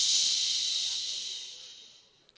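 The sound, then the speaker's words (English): A long, steady "shhh" from a group of people, a bright airy hiss that starts loud and gradually fades out over about two seconds, with no talking. “Okay, I think it's the shh makes everybody go.”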